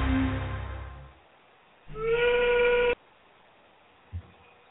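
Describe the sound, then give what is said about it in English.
A factory steam whistle sounds two loud, sustained blasts, each just over a second long with a steady, rich tone and a slight rise at the start of the second, followed by a soft thud. “All too often these days, the factory whistle is falling silent in America.”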